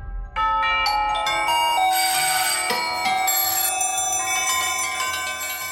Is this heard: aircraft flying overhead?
no